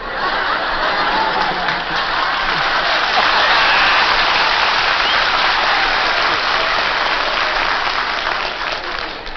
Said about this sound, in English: Boy, there was a lot of applause by husbands here then.